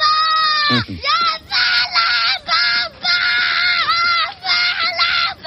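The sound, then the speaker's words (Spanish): A voice imitates Pedro Sánchez's first childhood tantrum: loud, shrill wails in about five bursts broken by short gasps, continuous for several seconds. “Me imagino cómo fue la primera pataleta de Pedro Sánchez cuando le llevaron la contraria de niño.”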